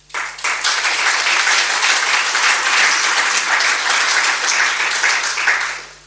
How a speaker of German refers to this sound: Ich danke Ihnen, dass Sie mit dem Beifall bis zum Schluss gewartet haben. Vielen Dank.